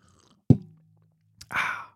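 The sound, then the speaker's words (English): A short, breathy slurp of tea, an airy rush of noise lasting under half a second, comes after a soft knock and a quiet pause. No one talks. “Let me take a sip. Oh yeah, I got feedback that I take very long sips. Enjoy this very long sip.”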